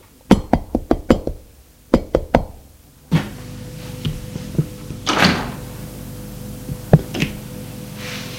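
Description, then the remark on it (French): A breathless woman knocks sharply on the wooden door of the top-floor left apartment in a small, shabby two-storey building: a quick run of five, a pause, then three more. A door sound follows, then a steady low hum with scattered thumps and a brief rushing swell. “Apolline, essoufflée, frappe à la porte.”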